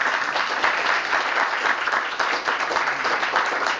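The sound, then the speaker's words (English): A crowd claps steadily in a dense, continuous round of applause for the story Full Circle, many hands blending into a bright, even patter that holds at a constant level throughout with no voices. “Should we just a quick round of applause for Full Circle, then?”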